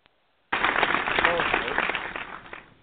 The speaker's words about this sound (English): Clap, clap, clap. Here we go.